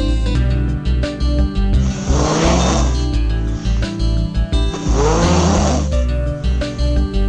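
A person snores in their sleep, two long, rough rasping snores a few seconds apart, recorded close up against a steady low background hum with no talking.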